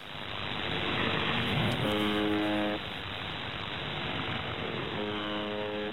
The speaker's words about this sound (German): Das ist wohl dieses Summen, was dann da mal kommt, weil das andere ist ja eher Rauschen, was permanent läuft.